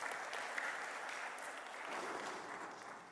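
Steady applause from a sizable audience, a dense wash of many hands clapping at once, sustained at an even, fairly loud level throughout with no voices on top.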